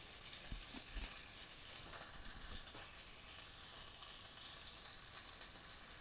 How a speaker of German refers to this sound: Brutzelt ja schön.